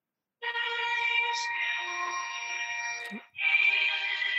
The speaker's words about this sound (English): do you have a buzzer with you today? I have a Christmas song. Let's see if I can.